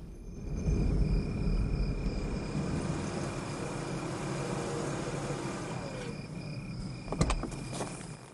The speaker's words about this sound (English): Kersey drives his dark blue sedan along a quiet road. He stops by a limousine